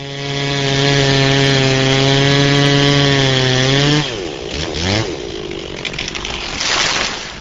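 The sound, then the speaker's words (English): A chainsaw roars at a steady high rev for several seconds, then its pitch sags as it bites into a green ash about 25 feet tall and 25 years old, giving way to rough, grinding cutting noise. A city arborist fells the tree at Woodfield Park in Waukesha, Wisconsin, as agencies search for the ash borer. “Beginning yesterday and for the next several months, the state ag department and local forestry agencies are using chainsaws to take a closer look for the ash borer in Wisconsin.”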